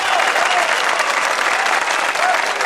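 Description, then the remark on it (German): A loud burst of applause with scattered cheering, dense steady clapping filling the whole stretch without pause or fade. “Und das ist mal einen ordentlichen Jubelwert.”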